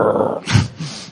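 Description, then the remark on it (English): A person imitates a Labrador retriever's growl with their voice: a short, rough, low rumble rising to a peak midway, then a softer throaty trail, fairly loud. “And you can see the daddy dog going like that.”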